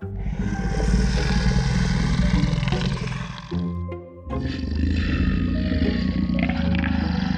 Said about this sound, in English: Before either of us could fall asleep, we both heard the fierce growl.